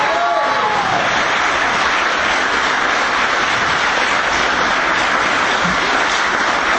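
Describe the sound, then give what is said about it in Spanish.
Sustained applause from many people in a council chamber, a dense, steady wash of clapping that stays loud and even for several seconds without fading. “más allá de los aplausos circunstanciales”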